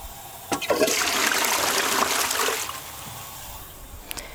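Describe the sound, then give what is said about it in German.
A toilet flushes with a sudden rushing surge of water that roars for about two seconds, then drains away into a softer gurgle and trickle, with no voices. “Genau, das war eine Klospülung.”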